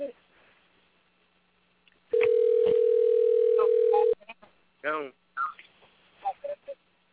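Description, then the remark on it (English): A phone call to a flip phone rings unanswered: one steady, loud, mid-pitched ringback tone holds for about two seconds, then cuts off, followed by a few short bursts of people talking. “Man, that man ain't answer the phone. I don't think he going to answer that one.”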